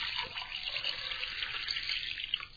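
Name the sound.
water running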